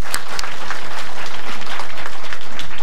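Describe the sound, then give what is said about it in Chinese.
A church audience applauds to welcome first-time visitors to the worship service, many hands clapping in a dense, even patter that stays loud throughout with no voices standing out. “我哋都用掌声系啦嚟到欢迎你啊！”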